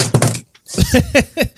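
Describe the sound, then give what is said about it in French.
A drink can drops with a short, loud metallic clatter and thunk, followed by a brief pause and then a few seconds of people talking. “vient d'échapper sa canette.”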